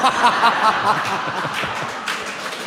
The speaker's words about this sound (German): Vorsichtiger Applaus.